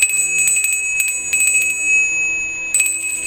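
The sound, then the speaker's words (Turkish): An ice cream truck bell rings in quick bursts of rapid clanging, pausing briefly between rounds, with a bright sustained tone hanging underneath. No one speaks. “Duydukları ses dondurma arabasının zil sesiymiş.”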